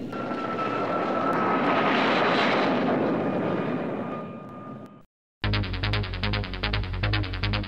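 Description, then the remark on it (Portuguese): A loud airplane engine roar with a whining tone, depicting a plane crashing onto the Ercílio Luz bridge, swells and then fades over about five seconds, cuts to a moment of silence, and is followed by a dense, droning musical sting. “Avião cai na ponte Ercílio Luz e mata 85 passageiros.”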